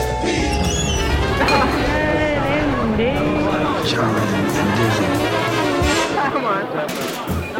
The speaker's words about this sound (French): J'ai toujours adoré ce son des portes qui s'ouvrent sur le club Jazzafip. Tapis rouge pour la note bleue, bienvenue au club.